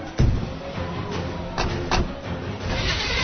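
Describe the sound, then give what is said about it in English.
The engine of a 1955 Chevy Nomad, a car with no electronics, starts up: a few sharp cranking bursts give way to a steady, rough, low rumble that stays fairly loud, with no voices. “It's a good thing we have this 55 Chevy Nomad. No electronics. Let's go.”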